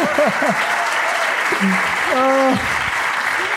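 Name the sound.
applause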